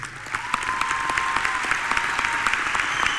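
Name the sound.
crowd applause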